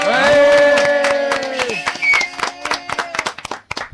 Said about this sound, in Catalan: I bé, bé, bé, no us podeu ni imaginar com està de ple avui l'estudi Miquel Armengol de Ràdio Molins de Rei. Tenim la taula a tope i ara, vinga, una forta ovació que se senti, va, vinga.